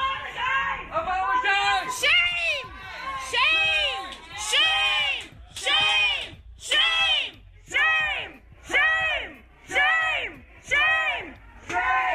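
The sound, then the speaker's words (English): A crowd of protesters yells in unison, chanting a short shouted phrase over and over in a steady rhythm, roughly once a second, loud throughout. “Take a listen to them yelling and chanting.”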